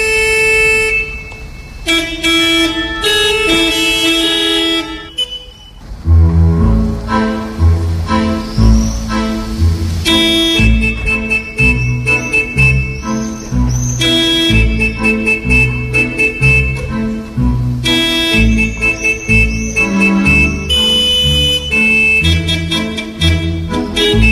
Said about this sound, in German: wie unterschiedlich so eine Hupe auch klingen kann